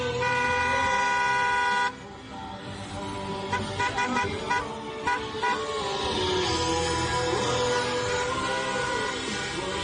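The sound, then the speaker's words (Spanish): Car horns honk in the street during a protest by supporters of the Galician team Deportivo (Depor), who have taken their cars out onto the streets: one long, steady blare at first, then several horns tooting in overlapping, irregular bursts over a loud, continuous rumble of traffic. “Recuerdan, como tiene que haber distanciamiento social, pues han cogido el coche, han salido a las calles y con el himno del Depor.”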